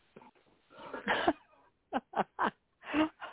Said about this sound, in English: I think I'm going to have to excuse everybody. Some of us are coughing, so please excuse us. We're sorry about that.